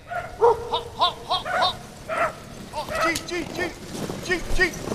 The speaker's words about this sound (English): Usually it's the bell atop Anvik's Episcopal Church that signals the arrival of the first musher into this lower Yukon River community. But this year, the local dogs bark their greetings to the visiting dog team